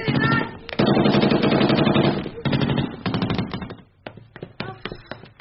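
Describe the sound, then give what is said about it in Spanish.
Rapid bursts of loud gunfire crackle almost continuously at first, then thin out into scattered sharp individual shots, with a faint voice briefly audible underneath. “Varias balas me pasaron rozando a un centímetro de mi corazón.”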